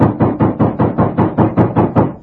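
A loud, rapid series of about ten heavy knocks on a house door off a porch, pounding at a steady, insistent rhythm for a couple of seconds, with no voices.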